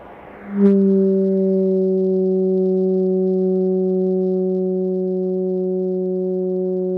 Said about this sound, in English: I hear the mesh crackling now, and in a minute when I take the blowtorch away, we'll hear the sound of the oscillator. It's a low tone, somewhat like a foghorn.